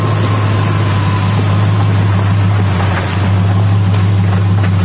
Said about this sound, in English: At the Yahats Motel, Rudy walks out as a squad car approaches.